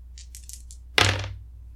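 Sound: dice being rolled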